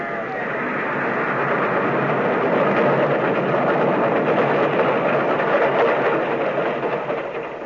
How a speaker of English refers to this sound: The train was coming closer. I could hear its bell. Or its cry, its whistle crying.